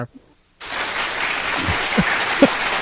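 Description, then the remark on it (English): After a brief near-silence, a crowd in Sweden abruptly breaks into steady, dense applause at a title match, holding loud and even to the end, with a few faint voices mixed underneath. “And obviously, we're holding it in front of a polite crowd in Sweden. They're going crazy,”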